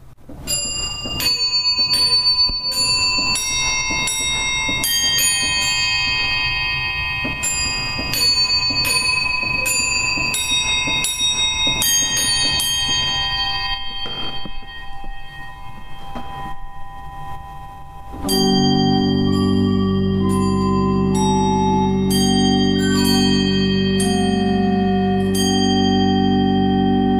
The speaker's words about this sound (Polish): Na początku audycji wspominałem Państwu o orkiestrze muzykujących aniołów, z których każdy wyposażony jest w dzwonek i młoteczek. Teraz chciałbym zaprezentować Państwu ich brzmienie.